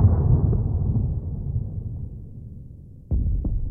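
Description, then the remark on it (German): Bombs explode in deep, rolling booms that slowly fade into a low rumble, then a sudden sharp blast hits, followed quickly by another heavy thud. No voices are heard. “Aber dann hörst du Bomben fallen.”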